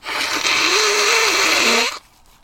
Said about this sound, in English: sorry, I'm going to blow my nose again.